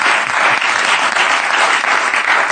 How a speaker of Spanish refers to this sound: Un aplauso para los científicos, por favor, que están ahí investigando. Gracias, ¿eh?